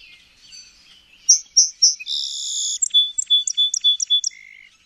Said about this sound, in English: And then the song sparrow.